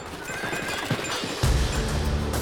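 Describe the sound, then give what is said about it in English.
A horse whinnies with a low, rumbling neigh while hooves clip-clop in a steady rhythm, the hoofbeats coming first and the deeper horse call swelling in partway through. “The horses moved slowly as everyone huddled together, faces down and away from the wind.”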